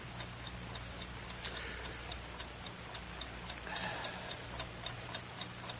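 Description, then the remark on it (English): A clock ticks steadily at a regular, even pace, the sharp little clicks fairly faint over a low, constant hum. “Darn stinking ornery clock. Always ticking, ticking, ticking, ticking, ticking, ticking.”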